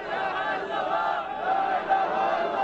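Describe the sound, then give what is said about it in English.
An angry crowd of mourners in Fallujah, bearing five cloth-draped coffins through the dusty streets to a cemetery, chants and shouts together in a steady, dense roar, the sound sustained without pause and fairly loud throughout; they chant "There is no God but Allah." “Bearing five cloth-draped coffins, an angry crowd marched through Fallujah's dusty streets to a nearby cemetery.”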